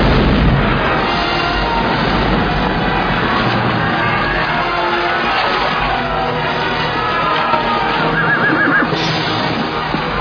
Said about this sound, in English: And the nimble gunner, with linstock now, the devilish cannon touches, and down goes all before them!